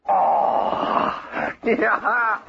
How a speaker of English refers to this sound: Oh! Yeah. Hey, here's a cougar howl tonight.